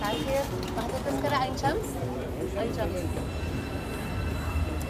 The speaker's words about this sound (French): Le métro nous mène jusqu'au quartier d'Ain Shams, où vit une importante communauté soudanaise.